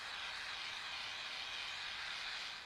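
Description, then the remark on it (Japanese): A steady, airy hiss of carbonated spray from a can, sprayed onto the scalp as the finish of a head massage, unbroken for nearly three seconds at an even, soft level, bright and fizzy with no voices. “それは炭酸スプレーですな。”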